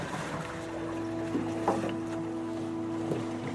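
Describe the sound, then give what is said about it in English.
A seaplane being dragged by a rope through cold, shallow water onto the rocky shore of Walker Lake by a person who has jumped out into the water: a steady low droning hum with light sloshing and a couple of brief knocks, with no voices. “jumps out into the cold water and drags the seaplane onto the rocky shore by a rope.”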